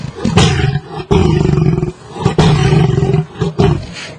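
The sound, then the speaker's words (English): A cat's deep, rumbling growl slowed down to a much slower pace with the low end emphasized, so it resembles a lion's roar, coming in several long, loud bursts with brief pauses between them and no talking. “We took that sound and were able, the University of Miami has an audio lab, we were able to slow this down and to a much slower pace and also to highlight the low end, and this is what it sounds like.”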